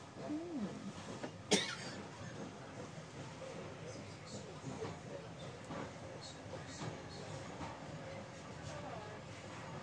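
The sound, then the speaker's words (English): A train carrying many people leaves Hampton Lode station for Bridgnorth, rolling past with a steady, broad rumble and faint rattling throughout, broken early by one sharp metallic clank. Low murmuring voices can be heard underneath. “Oh, the other train's moving.”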